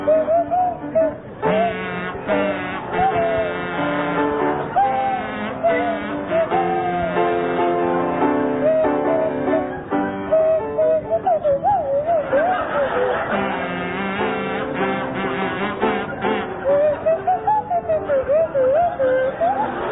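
Jeremy Hardy on a buzzing kazoo and Tim Brooke Taylor on a sliding swanee whistle play a tune together as a duet, their wobbly, nasal tones swooping up and down continuously, loud, with no pauses throughout.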